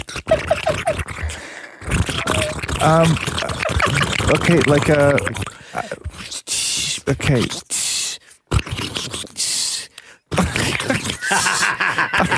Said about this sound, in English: What was that? Water boiling in a pot.